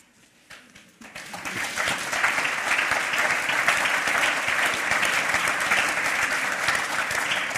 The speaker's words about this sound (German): Da hätte ich jetzt ehrlich gesagt nicht mit Applaus gerechnet, aber danke.